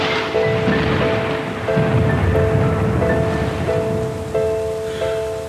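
Steady, dense rainfall hisses throughout, with a low rumble like thunder underneath, while soft sustained musical tones change pitch every second or so above the downpour.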